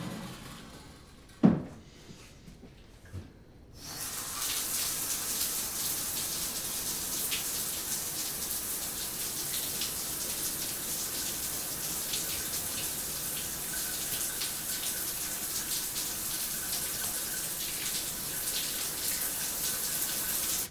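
household object, shower water running

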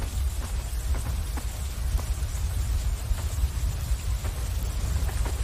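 nature, rain falling

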